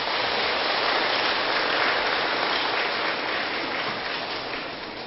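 A crowd applauds steadily as a vow to give and share merit and virtue, a dense wash of many hands clapping at once, sustained and fairly loud throughout before easing slightly toward the end. No one speaks.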